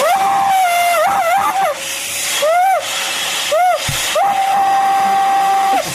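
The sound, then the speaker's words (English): A vacuum cleaner hitting a spot with nothing to suck up whines with a high, wavering tone that rises and falls in wails and arcs like a frightened human cry, over a steady loud hiss of airflow. “This vacuum cleaner, it sounds like a terrified human when it hits a spot that there's nothing to suck up.”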